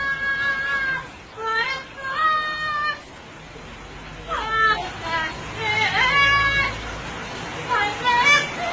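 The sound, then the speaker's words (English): A parrot sings in about five warbling, high-pitched phrases with sliding, wavering notes, separated by brief pauses over a low steady background noise. “Listen to this parrot.”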